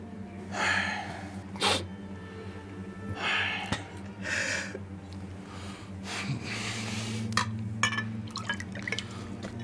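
Water is poured into a glass for someone to drink in a few short splashy bursts, fairly quiet, over a steady low background hum, with soft breathy sounds between pours.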